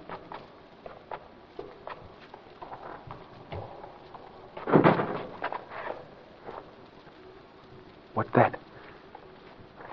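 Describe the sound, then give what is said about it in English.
A door slams shut with one loud, heavy thud midway through, then a second sharp bang a few seconds later, over soft shuffling footsteps and light patter. Someone slams the door shut on a windless night. “Someone slammed it shut.”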